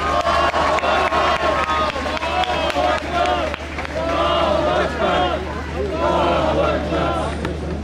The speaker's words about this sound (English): So there's a nice loud cheer and a round of applause and throw a few takbirs in if you like.